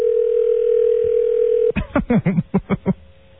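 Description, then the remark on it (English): A steady telephone dial tone hums for nearly two seconds during a phone call, then breaks off into a quick burst of clipped, stuttering sounds, ending with a faint lingering tone. “Dave Letterman making all kinds of calls. That's right. Very busy today with his phone.”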